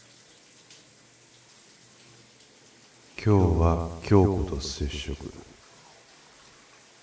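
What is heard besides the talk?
shower water running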